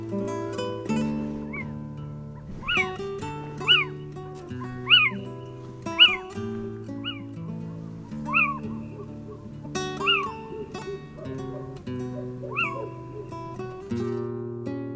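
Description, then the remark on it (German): A little owl gives a series of sharp, mewing calls in a garden, about ten of them at irregular intervals, clear over a steady low musical drone. “Das war der Steinkauz.”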